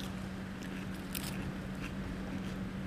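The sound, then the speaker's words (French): A few crisp, crunchy bites into a small fresh leaf from the heart of a pesticide-free lettuce in a greenhouse, over a steady low background hum with no talking. “Elles sont croquantes. Elles sont bonnes.”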